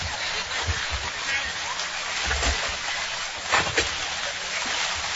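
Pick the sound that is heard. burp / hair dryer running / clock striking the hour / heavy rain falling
heavy rain falling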